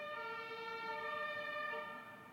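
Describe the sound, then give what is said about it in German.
A passing fire engine's siren wails steadily with a loud, harmonic-rich tone, holding fairly even before easing off slightly at the end, with faint road noise underneath and no talking. “Jetzt fährt hier die Feuerwehr. Ich weiß nicht, ob ihr das hören könnt.”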